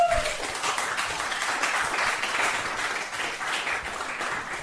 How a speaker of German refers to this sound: Einmal kurz einen Applaus für die Dame. Bitte. Ein Applaus für die Dame.